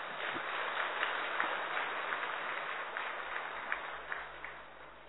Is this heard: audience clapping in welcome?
yes